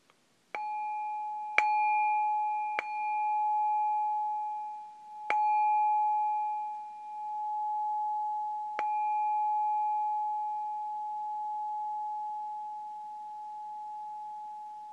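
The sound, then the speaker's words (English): A meditation bell is struck five times at uneven intervals, each strike blending into one steady, clear mid-pitched tone that rings on and slowly fades. No one speaks. “At the sound of the bell, maintaining your attention on your breath for the length of the sound of the bell.”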